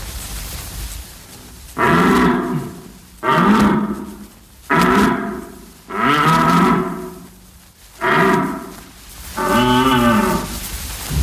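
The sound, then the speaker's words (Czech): A rutting stag, its long antlers laid back, neck stretched and throat open, roars six times in a row, each call a loud, deep, drawn-out bellow lasting about a second, separated by short pauses, with no voices present. “Nyní položil své dlouhé parohy na hřbet, natáhl chřtán a z otevřeného hrdla vyráží táhlý řev.”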